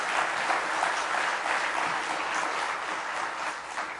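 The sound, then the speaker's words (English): An audience claps its hands together in praise during a morning church service, a steady, dense, loud continuous wash of many overlapping claps that holds evenly for several seconds with no voices standing out. “Give him one more good hand clap of praise this morning.”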